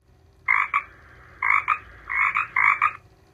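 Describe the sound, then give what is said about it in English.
A frog croaks in four loud bursts as it comes into a room, each a quick double-pulsed rasp, spaced evenly over a few seconds with quiet gaps between and no voices. “Frog came into the room.”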